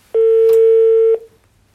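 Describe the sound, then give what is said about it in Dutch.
A single steady telephone ringing tone sounds for about a second, loud and even in pitch, with a faint click partway through, then cuts off into quiet, as a phone call is placed to the speaker's aunt. “2 maanden geleden belde ik mijn tante op om haar te vragen naar een typisch Roemeens gerecht uit haar streek.”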